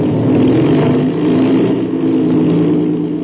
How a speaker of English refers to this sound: That's the way an airplane motor starts, fast as a flash.